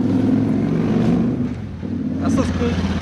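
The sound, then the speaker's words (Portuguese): A motorcycle passes outside, its engine a steady low droning hum that dips briefly midway before swelling again, with faint muffled voices underneath. “E a nota de corte, não sei, porque a moto estava passando, não lembro se...”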